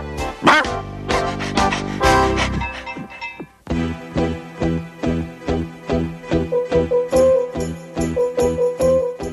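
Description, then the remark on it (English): A dog that is foaming at the mouth barks over and over in a quick, steady run of sharp, loud yaps, following an opening burst of dense, noisy barking with no talking. “Mad dog! Mad dog!”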